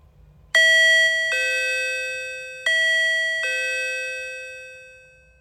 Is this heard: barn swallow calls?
no